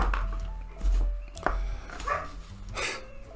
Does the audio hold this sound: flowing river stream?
no